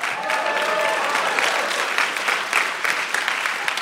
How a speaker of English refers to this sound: All right. Let's take a break. Let's take a quick break. If you're listening at home, let's get a round of applause as we...